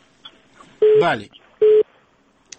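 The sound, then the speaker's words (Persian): A telephone rings twice over a call-in line, two short, loud electronic tone bursts about half a second apart, with a brief voice overlapping the end of the first ring. “یا بل تلفن مرمانی شد.”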